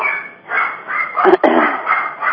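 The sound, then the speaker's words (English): Several new puppies bark in a rapid string of high, thin yips, overlapping one another without pause, sounding tinny as if picked up through a phone line. “I hope for everybody listening, those are my new puppies.”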